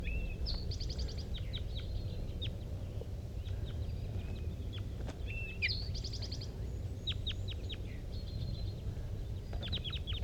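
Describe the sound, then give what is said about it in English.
Wild birds, one perched in the top of a dead pine, call in bursts of high, quick trills and sharp chirps, some repeated in rapid runs, over a steady low rumble with no one talking. “These are wild birds calling.”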